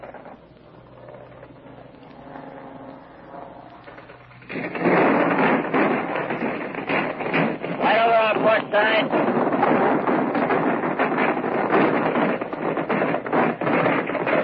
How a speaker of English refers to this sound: Our own ship has just gave its warning whistles, and now the flak is coming up in the sky. Here we go again, another plane's come over.